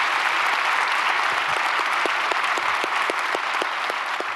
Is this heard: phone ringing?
no